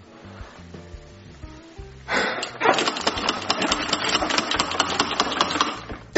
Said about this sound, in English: Daddy! Daddy, the vacuum's not sucking, so it's definitely not your mom.